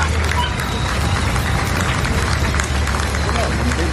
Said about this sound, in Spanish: flanqueado por los aplausos de los asistentes.